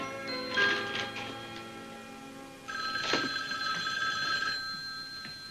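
A telephone bell rings in two long, shrill bursts separated by a brief pause, clear, with no one talking over it.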